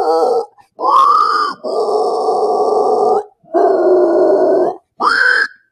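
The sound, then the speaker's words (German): A singer demonstrates the inhale growl, a metal vocal style made while breathing in. There are five raspy, guttural vocal bursts with short breaks between them, the middle ones long and sustained, loud and harsh with no talking. “Aber dieses Inhale ist halt super easy.”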